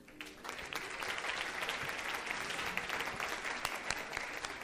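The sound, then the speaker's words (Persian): An audience claps steadily for several seconds, a dense, continuous patter of many hands, with no talking over it, applauding a person going up to introduce themselves. “یک کوچی خودت هم معرفی میکنی، تشویق کنین.”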